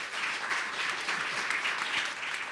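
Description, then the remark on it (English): A crowd at a radio show recording claps steadily in answer to being asked to clap if they have homeowners insurance, a dense wash of many hands that holds loud and even for a couple of seconds, with no voices rising above it. “Okay, clap if you have homeowners insurance.”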